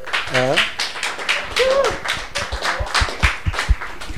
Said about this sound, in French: On peut l'applaudir.